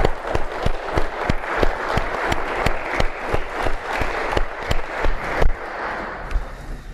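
A crowd applauds steadily for several seconds in honor of two people's 50 years, dense clapping with a few sharper, louder claps standing out in a fairly regular rhythm, then tapering slightly at the end.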